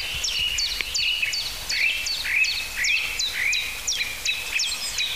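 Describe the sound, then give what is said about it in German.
A bird repeats sharp, blackbird-like 'tuck' alarm notes about twice per second in a steady series, clear over a quiet outdoor background, with no one speaking. “Oh, das war fast so ein Amsel-Duck, Duck, Duck, Duck.”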